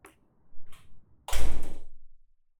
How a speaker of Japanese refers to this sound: このドア重いので気をつけて。